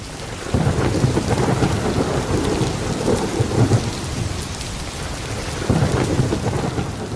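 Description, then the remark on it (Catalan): A loud thunderstorm with lightning, heavy, steady rain pouring throughout and deep rumbles of thunder rolling in and out, swelling near the start and again toward the end. No voices. “I era una pluja molt forta, que aquella pluja es va convertir en una tempesta. Amb llamps, amb trons, una tempesta d'aquelles que fan por.”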